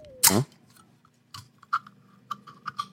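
A can of Red Bull Sugar Free is cracked open with a sharp pop and a short burst of hiss, followed by a few faint, irregular clicks and taps in the quiet.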